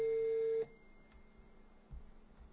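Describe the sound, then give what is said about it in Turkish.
A telephone ringback tone on an outgoing call to a television repairman: one steady, fairly loud beep lasting just over half a second, then cutting off to a quiet line with faint low background noise and no talking. “Televizyon tamircisini deneyeceğim. Bu olsa mükemmel olur da açacağını sanmıyorum. Çalıyor şu an.”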